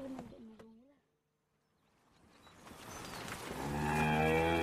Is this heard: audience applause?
no